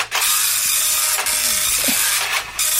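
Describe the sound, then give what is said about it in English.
An old, very slow dot matrix printer rasps loudly and continuously, its harsh buzzing broken by brief pauses as the print head changes direction between lines. No voices are heard. “Old dot matrix printer.”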